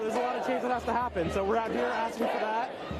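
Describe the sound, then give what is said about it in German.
A crowd of protesters in Washington D.C. shouts, yells and boos over one another in overlapping, agitated bursts at a participant tearing down a street sign, loud, with no single voice standing out clearly. “In Washington D.C. regen sich Demonstranten über einen Teilnehmer auf, der ein Straßenschild runterreißt.”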